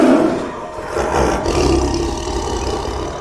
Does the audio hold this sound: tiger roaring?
yes